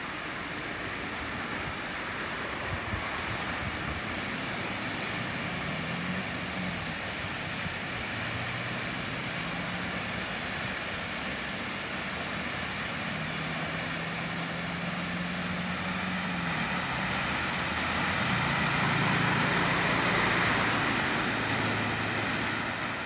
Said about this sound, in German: Ja, wir hören Regen von unten. Das ist ein riesiger Springbrunnen